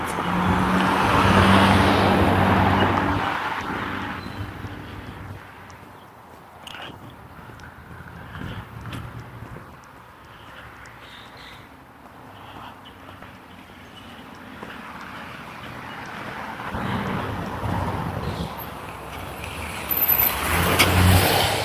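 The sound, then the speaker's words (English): A school bus rumbles past outside on the last day of school, its engine loud at first and then fading into road noise, before another heavy vehicle swells louder near the end. No one speaks. “I mentioned that because it's the school bus is moving around here.”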